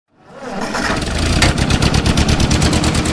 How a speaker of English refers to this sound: This 1947 Ford 2N tractor is the same age as its owner